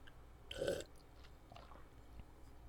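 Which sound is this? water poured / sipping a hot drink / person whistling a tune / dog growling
sipping a hot drink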